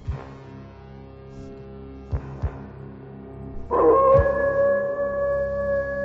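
wolf howling

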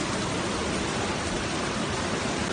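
rushing floodwater

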